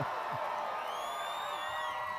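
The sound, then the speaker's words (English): A large concert crowd at a live band show in Felon Park, Ouray, roars steadily for an encore, with scattered whoops and whistles rising above the din, a continuous wash of cheering heard from within the audience. “And this crowd is definitely not ready to give it up.”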